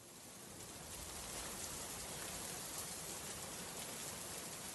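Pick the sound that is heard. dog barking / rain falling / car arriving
rain falling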